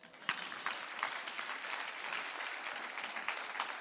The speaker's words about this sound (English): You can clap about that.